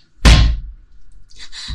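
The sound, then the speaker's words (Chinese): A single loud, forceful slam of the door of an apartment (building 16, unit 1306) with a heavy low thud and a brief ringing decay, followed by faint rustling and a soft knock-like bump. “关门这么用力，我还以为你不欢迎我呢。”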